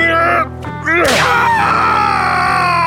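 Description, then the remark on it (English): A single sharp whip crack snaps out loud as a sergeant strikes the fifth and final blow with all his strength, followed at once by a drawn-out, strained groan of pain that trails off slowly beneath a steady low background hum. “He took a step forward as he struck, putting all the strength in his muscular body behind the whip.”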